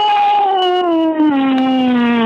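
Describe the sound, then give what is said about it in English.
A person imitates a cow mooing: one long, loud vocal tone that slides slowly downward in pitch, with a drawn-out, almost howling quality. “They moo in Russian. Yeah, or sound like a whale.”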